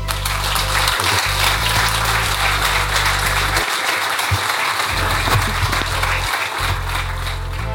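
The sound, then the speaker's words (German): Steady, dense applause from an audience at the end of a live talk, many hands clapping continuously at an even, loud level for several seconds with no voices standing out. “Ja, so ein Applaus tut immer gut.”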